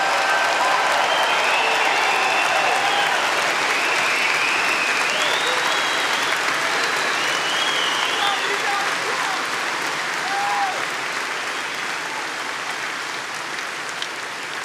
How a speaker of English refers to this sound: And I know we have many veterans in the audience today, and we want to give them a big, big, beautiful round of applause.